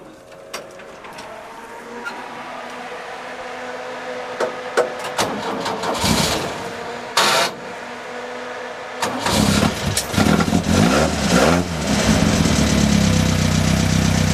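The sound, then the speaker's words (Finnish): A loud racing car engine cranks and catches, idles roughly with clicks and pops, then bursts into aggressive revving with rising and falling snarls, with no talking. “Olisiko mitenkään mahdollista saada nauhalle vähän tuota moottorin revittelyä?”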